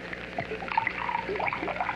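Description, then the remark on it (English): Water is poured into a glass of scotch to mix a drink at a bar in the morning, a steady gurgling stream lasting about two seconds, with no one speaking. “A scotch? Any special brand? No, whatever, any kind. Soda? Water? I guess water. Mix it for you?”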